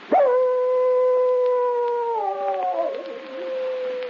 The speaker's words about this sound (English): One evening, Ricky nosed open the door of the cabin and howled at the full moon.